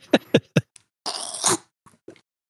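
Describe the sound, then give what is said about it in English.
A voice imitates a frog being eaten: three quick, croaky gulps, then a loud, breathy hissing squelch lasting about half a second, and a couple of faint trailing clicks. “What would it sound like for a frog to get eaten?”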